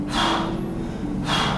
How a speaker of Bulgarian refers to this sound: Може подишане. Още 10 пъти така. Дълбоко дишане. Просто фокусирай ума в дишането.